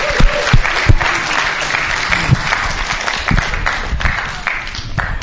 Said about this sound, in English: let's everybody just give them a round of applause. They're amazing.